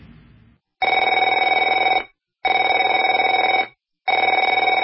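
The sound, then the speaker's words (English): A telephone rings in three loud, steady bursts of about a second each, a bright trilling electronic bell with short silent gaps between rings and no one speaking. “Afraid to answer it?”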